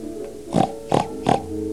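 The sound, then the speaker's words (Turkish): A pig oinks three times in quick, evenly spaced grunts, fairly loud, over a steady humming tonal background. “Ben etmem der domuz.”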